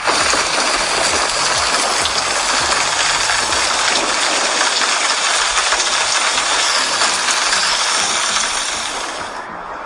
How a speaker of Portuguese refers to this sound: Agora, pessoal, depois da fala, aí vai ter o barulho de chuva e o de trovão.